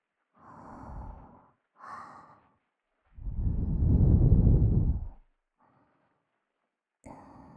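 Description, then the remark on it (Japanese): Breath blown into the ear to tickle it: two short airy puffs, then one long, loud, rushing exhale, followed by softer faint breaths, with no talking. “それなら、こうすると耳くすぐったくって吐息の方に意識がいっちゃう。”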